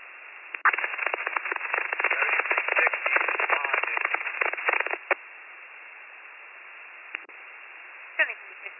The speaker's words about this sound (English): nothing coming through but static.